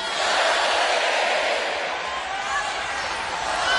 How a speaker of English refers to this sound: The crowd chants, lock her up, lock her up.